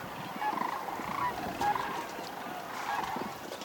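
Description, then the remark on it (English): A chorus of sandhill cranes bugling together, with overlapping rolling, trumpeting calls rising and falling continuously, moderately loud and steady throughout with no talking. “with a long passageway for the sound that it kind of amplifies it, and it comes out very loud.”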